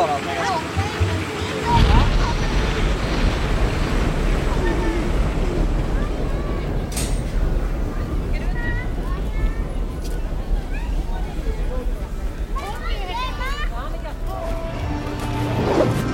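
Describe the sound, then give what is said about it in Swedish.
Loud, continuous rush of splashing water from an amusement park water ride, with wind buffeting the microphone and faint voices mixed in underneath. “Vad roligast med den här då? Att jag får vatten på mig.”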